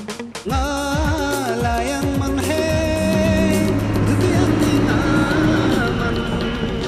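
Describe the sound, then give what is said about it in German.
A bus engine drones loudly, its pitch climbing and dropping through gear changes as the bus drives along a road to the village of Nimu in Ladakh, with steady rumbling throughout. “bin ich auch diesmal mit dem Bus nach Nimu zu Norbus Familie gekommen”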